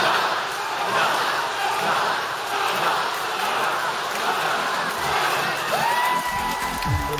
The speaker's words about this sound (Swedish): Ljudvolymen är på max. Och trots att han aldrig varit förtjust att stå i centrum så står han nu här på en scen i Las Vegas med ett hav av skrikande fans som ropar hans namn om och om igen.